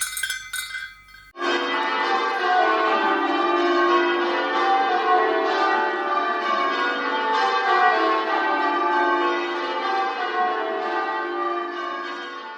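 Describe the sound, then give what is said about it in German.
Church bells peal loudly and continuously, their overlapping rich tones ringing out together in a sustained, resonant wash after a brief quiet start. “Ich finde den Klang von Glocken herrlich, mächtig, bedeutungsvoll.”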